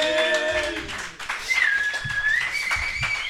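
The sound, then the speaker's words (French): Crowd cheering and applause welcoming a returning presenter for her press review: a dense, steady wash of clapping with shrill whistles rising above it, loud and sustained for a few seconds without any speech. “Et sous les acclamations de la foule, on accueille”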